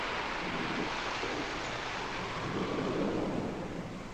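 A steady roar of heavy rain fills the scene while low thunder rumbles and swells underneath, building twice before easing off. No voices are heard.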